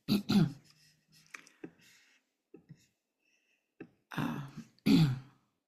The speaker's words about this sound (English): I'll silence myself and cough for a minute.